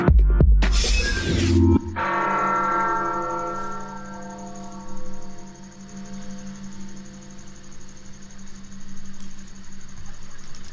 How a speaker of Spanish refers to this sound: Bueno, pues es el toque de campanas hace unos momentos allá en la Catedral Metropolitana, ahí en el primer cuadro del Centro Histórico. Bueno, pues se tiene contemplado que sean 100 toques con la campana mayor.